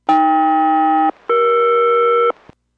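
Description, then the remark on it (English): A SELCAL aircraft radio chime sent by Boeing Everett to Boeing 201 Heavy during a radio check: two steady, buzzy multi-tone bursts of about a second each, separated by a brief pause and followed by a short click. The tones are loud and there is no talking. “And Boeing Everett, Boeing 201 Heavy, another radio check, standing by for chimes of cell call.”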